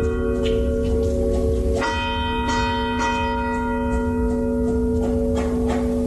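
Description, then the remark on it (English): The Shandon church bells chime loudly, their long ringing tones overlapping and hanging in the air, with a fresh strike about two seconds in. A low rush of wind runs underneath, and no one speaks. “I'm going to continue to call that the Shandon bells chimes then.”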